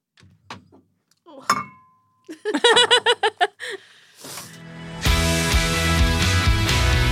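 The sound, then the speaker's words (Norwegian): A few light knocks lead into a bright clink of glasses raised in a toast that rings out briefly, then a burst of giggly laughter before loud music swells in and fills the rest. “Love you, og skål.”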